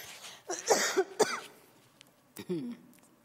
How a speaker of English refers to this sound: Here it comes, people, the cough.